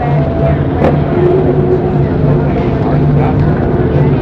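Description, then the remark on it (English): A loud, steady roar of race car engines on the main straightaway during the second lap of a track run at about 220 miles per hour, a dense, droning mechanical rumble that holds constant without fading or pausing. “Ashley's on the main straightaway of the second lap. He's on and running in the field.”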